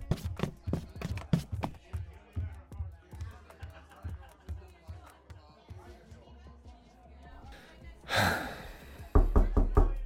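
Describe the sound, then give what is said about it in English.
Someone knocks on a door again and again, a long run of firm raps that gradually soften, then a brief noisy burst before a final flurry of loud, rapid knocks. “Open the door. Hey, it's me.”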